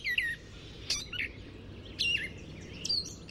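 A gray catbird sings a jumble of short, squeaky whistles and chirps, each phrase different and separated by brief pauses, over a steady low rumble of background noise.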